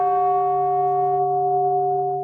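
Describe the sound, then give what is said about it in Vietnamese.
A stone temple chime is tapped gently with a mallet as a signal for everyone to stand up, ringing out a steady, pure tone with clear layered overtones. The highest ones fade after about a second while the deeper hum sustains. “Nhưng mà ông lấy cái này, ông vỗ nhẹ vô một cái để nó phát cái hiệu lệnh cho mọi người đứng lên.”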